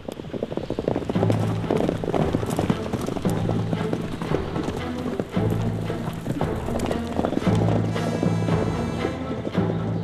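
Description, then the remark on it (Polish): Horse hooves clip-clop in a steady rhythm for the whole stretch, set against a loud wash of wind-like rushing noise and a low sustained drone. “Teraz już może mniej, ale kiedyś, jak się tu przeprowadziłem, często bywałem tu świtem albo w nocy, to ten szum, ten wiatr, to wszystko, ten koni, to się po prostu słyszy. On tu jest cały czas.”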